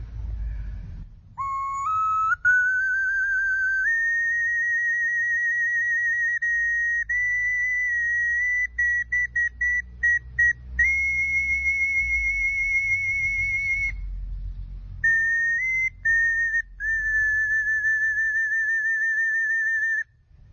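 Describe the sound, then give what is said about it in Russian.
A folk wind instrument with a birch-bark mouthpiece plays a shrill, piercing melody alone, holding long high notes that step upward, with a quick run of short staccato notes midway. “Во-вторых, берестяной мундштук очень быстро от дыхания мокнет. Но мы все равно ее долго слушать не сможем, а я не смогу долго играть.”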